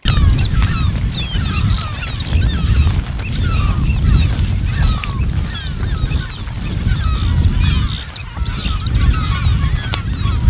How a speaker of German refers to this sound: Und die Vögel schreien dann im Frühjahr alle wild durcheinander? Genau, und das macht die Unterscheidung ziemlich schwierig. Also läuft man über die Spiekeroger Ostplatte, hört sich das oft etwa so an.